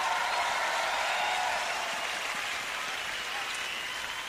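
A crowd applauds steadily, a dense wash of clapping that holds at an even, fairly loud level for a few seconds with no one speaking over it.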